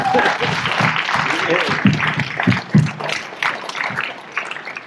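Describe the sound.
An audience applauds in a dense, steady wash of clapping that lasts about five seconds, with some voices murmuring underneath and the applause thinning slightly near the end.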